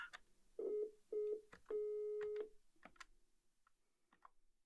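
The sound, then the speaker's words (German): A low, steady telephone dial tone hums in three short stretches, the last one longest, mixed with clicking key presses as a mobile number is dialed to call a listener, followed by a few more sharp taps as the tone stops. “Ein Amt? Wir haben ein Amt, genau.”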